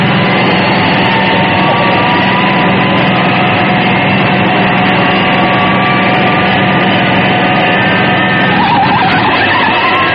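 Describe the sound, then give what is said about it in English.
A loud, steady roar from the engine of the Fire Flash aircraft runs throughout as it lands on the runway, supported by elevator cars. A constant droning hum sits under broad rushing noise with no pauses, and no one speaks. “The engine sprang to life, and the wing rose just enough for the radio truck to race into position beneath it.”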